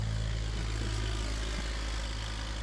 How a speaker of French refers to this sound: Le tracteur qui passe.